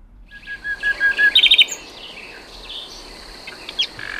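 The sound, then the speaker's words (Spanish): A common nightingale sings in the night: a run of repeated piping notes, then a quick burst of rapid trills and sharp whistles, over a faint steady background hum. “Esto es un ruiseñor común, en plena expansión nocturna. Los ruiseñores cantan de noche.”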